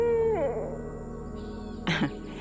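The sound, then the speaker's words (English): An owl hoots in a yard in the evening as it grows dark, a drawn-out, wavering tone that dips in pitch, followed by a brief harsher burst near the end, with no talking. “Later in the evening, as it started to get dark, this owl kept returning to my yard.”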